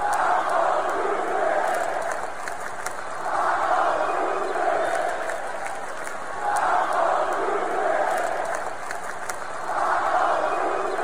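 A large crowd at a Lakers basketball game chants in unison at the end of the game during a taco promotion, the roar swelling and fading in a steady repeating rhythm about every three seconds, loud and continuous with scattered sharp claps or squeaks on top.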